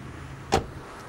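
A car door is shut once after a passenger gets in, a short, solid thud that rises briefly above a low, steady engine-like hum. No one speaks.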